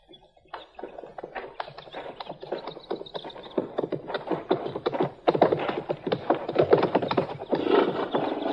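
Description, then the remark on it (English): Hooves clip-clop unevenly on a hard surface as several horses are led out, the steps growing louder and busier, with a brief snort or whinny in the mix. “you can bring the horses out now.”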